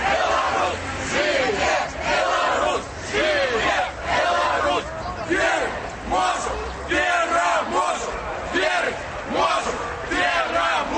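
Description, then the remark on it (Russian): A large crowd of demonstrators chants in unison at the intersection of Independence Avenue and Lenin Street as traffic police form a human chain and push them onto the sidewalks: loud rhythmic shouted phrases repeating every second or so over a constant roar of many voices. “Люди почали скандовать.”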